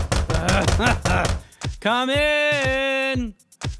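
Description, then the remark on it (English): A loud, drawn-out creak from door hinges, a steady, slightly wavering squeal with faint ticks through it, preceded by a second of clattering and shuffling. “Yes, I need to oil the door hinges because the door is ridiculously creepy.”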